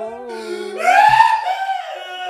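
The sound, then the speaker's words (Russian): A single voice imitates the loud wailing of mourners crying over someone who has died, a sustained tonal cry that swells and rises in pitch midway, then eases off, prominent with no other sounds around it. “Вот так они плачут. В общем, да. Вот такой плач стоит.”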